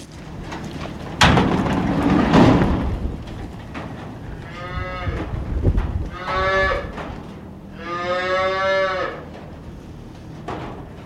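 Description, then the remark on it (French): Black-and-white Prim'Holstein dairy cows moo several times in a barn while eating maize silage, three long drawn-out calls, following a burst of rustling and clatter at the start. No one speaks. “Donc là, c'est l'alimentation des vaches. C'est l'ensilage maïs qu'elles mangent là.”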